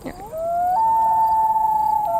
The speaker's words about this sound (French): J'adore celui-là aussi. C'est en France? Alors, ils peuvent effectivement être en France, mais ils sont principalement au Canada. Ce sont des oiseaux qui migrent. C'est des oiseaux? Oui, c'est le plongeon huard.